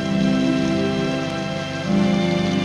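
Steady, continuous rain hisses and patters across a surface, fairly loud, with a low sustained tonal hum running beneath it and no voices.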